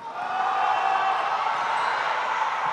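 A basketball crowd roars in a sustained, loud wave of cheering and shouting that swells quickly and holds steady, with no clear individual voices standing out.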